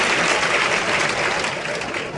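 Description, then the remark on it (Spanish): A bullring crowd applauds and cheers in a steady, loud ovation for bullfighter David's intense opening passes with the bull, a dense wash of clapping that holds evenly throughout with no talking over it. “De hecho, ahí están escuchando la ovación del público.”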